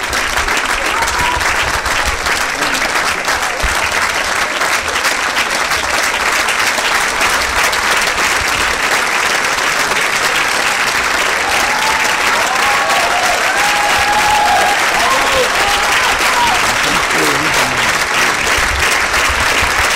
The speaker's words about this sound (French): Et il a vraiment ému le public. En témoignent ses applaudissements nourris à l'issue de la projection.